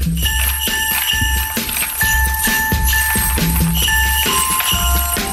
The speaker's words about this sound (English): Anybody, any guesses? Well, so far it's Jingle Bells.